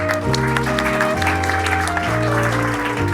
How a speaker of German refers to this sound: Sehr gut. Applaus für den Teilnehmer.